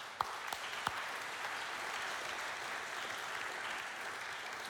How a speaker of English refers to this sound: So I want to give all of those people a big round of applause.